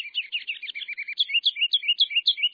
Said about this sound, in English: It begins with a song. That mile of music comes from a bird 4 inches long and weighing about a quarter of an ounce.